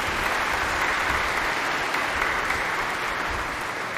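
An audience at Mass on Mother's Day applauding the mothers steadily, a dense wash of many hands clapping at an even, loud level for several seconds with no voices standing out.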